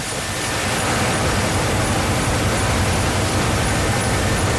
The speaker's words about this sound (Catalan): I a aquesta hora de la nit, al fil de 3:15, ens agrada passar per la rotativa i veiem que ja notem, ho sentim, que s'hi treballa fort.